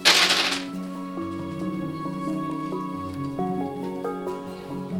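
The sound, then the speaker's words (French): Several six-sided picture dice, showing characters and weather symbols such as a cloud, moon, ice cube, star and sun, are thrown for a storytelling game and clatter loudly for about half a second at the start, a quick rattling tumble, followed by a soft melodic tune that plays on by itself for the rest. “Et alors on jette les dés, vas-y, tu fais.”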